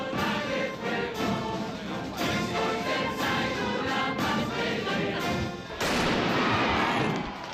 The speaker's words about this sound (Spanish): La Semana Grande de Donostia ya está en marcha. Hace una hora ha sonado el cañonazo que da comienzo a las fiestas.